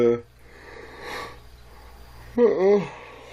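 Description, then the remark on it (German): A yawn by a streamer greeting viewers at the start of a morning livestream: a brief voiced sound, a long breathy intake, then a loud drawn-out vocal sigh that wavers in pitch before fading. “Man macht einfach die Kamera an, sitzt da völlig fertig, ungekämmt und gähnt erstmal.”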